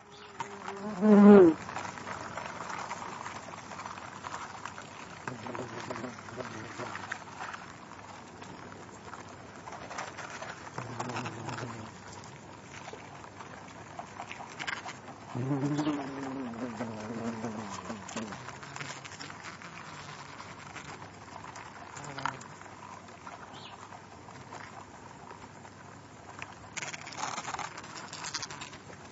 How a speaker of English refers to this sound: Here's another sequence, which was recorded when I observed the wasps adding additions to the external nest structure.